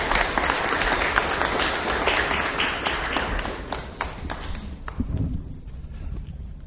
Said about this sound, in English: A round of applause for our participants, please.